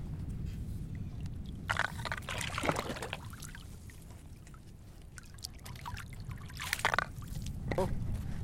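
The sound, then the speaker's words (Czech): Water gushes up from a spout in two strong surges, a few seconds apart, rushing and splashing over a steady low rumble of the sea. “Ten výtrysk znamená, že budou gigantické vlny.”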